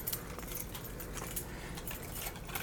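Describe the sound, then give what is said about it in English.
Continuous rustling and crinkling of crinkly paper packing material being pulled off an item and shuffled, moderately loud, with scattered bright crackles and no talking. “Get the confetti off of it or whatever that is. Crinkly paper.”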